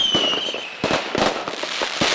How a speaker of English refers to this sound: The 4th of July is, of course, all about fireworks, the bursts of color in the sky, and also the sounds.